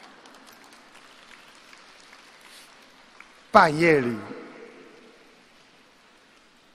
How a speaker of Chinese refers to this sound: 还没鼓掌完呢